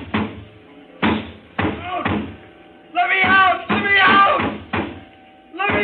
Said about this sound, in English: Would no one ever hear my calls? I went to the door, banged on it.